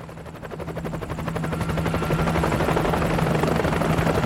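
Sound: helicopter approaching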